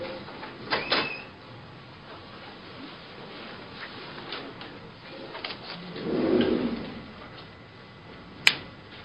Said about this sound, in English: Secretary, open the door.